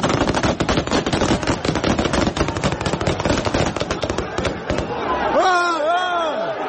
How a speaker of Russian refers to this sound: Когда к митингующим вышел Юнусбек Евкуров, в него полетела пластиковая бутылка. В ответ на это охрана главы республики открыла огонь вверх и увела его.